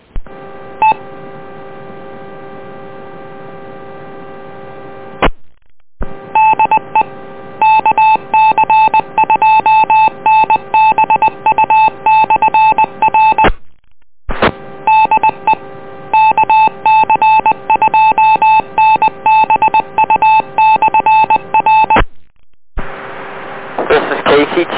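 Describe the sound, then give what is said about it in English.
Loud touch-tone DTMF beeps over a radio channel, sent to log off a repeater through the EchoLink system: a steady tone at first, then two long runs of rapid dialing tones separated by brief silences, ending in a burst of static. “I'll be logging off of this repeater through the Echo Link system.”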